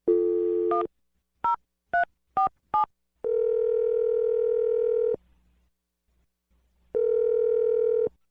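A steady telephone dial tone hums, broken by a quick series of short touch-tone beeps as a phone number is dialed on the radio show Brooke and Jeffrey in the Morning, followed by two long ringback tones with a pause between them.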